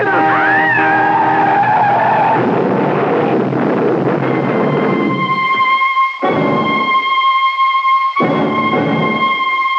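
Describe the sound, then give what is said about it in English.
A truck's tires skid loudly on the road, a long rumbling slide rising into sustained high-pitched squeals that cut out briefly twice before screeching on. No one speaks. “That truck. He's crazy.”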